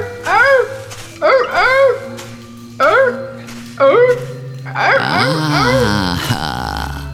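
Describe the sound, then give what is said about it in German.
A harbour seal pup calls out loudly: four short, bleating wails in quick succession, then a longer, wavering cry that trails off. “Kleiner Seehund.”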